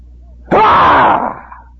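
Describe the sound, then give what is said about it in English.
A person lets out a loud, drawn-out roar imitating a lion, a single sustained burst lasting under a second that fades off into a rough trailing growl. “Can you imagine walking along, minding your own business, and all of a sudden, boldly out of the underbrush comes this lion with his eyes fixed on you, roaring wildly at the top of his lungs?”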